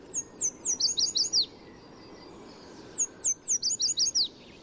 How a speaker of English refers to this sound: In spring and summer, yellow warblers sing from treetops in city parks and streamsides from Mexico to Canada. These lemon-yellow birds especially love willow trees near running water, perfect for building a nest and finding food.